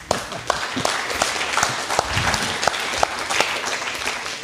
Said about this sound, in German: Also herzlichen Dank, dass ihr hier seid und einen Applaus für euch selber.